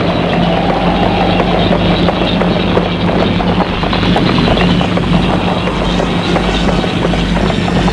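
Horses set off at a gallop during a terrible, windy storm at night, in a steady, rapid drumming of hoofbeats that runs the whole time. It is loud and continuous over a dense rumbling wash of noise, with no voices.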